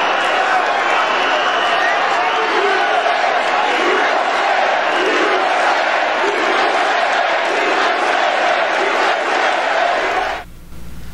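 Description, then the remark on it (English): A large crowd boos and chants "USA, USA" loudly in a dense, steady roar of many voices that lasts about ten seconds before cutting off abruptly. “So you got Democrats booing for a legislator who took a sniper bullet to the hip, and they're booing, and you got Trump's crowd shouting, USA, USA.”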